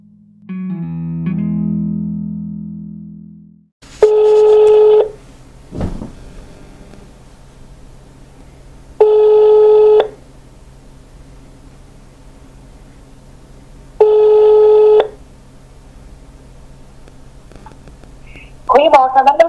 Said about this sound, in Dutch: Ik bel nu Loes op om met haar in gesprek te gaan en wat aanvullende vragen te stellen bij dit hoofdstuk.